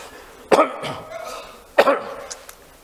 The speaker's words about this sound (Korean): 말씀만 잘못 했는데 기침까지 해서 죄송합니다.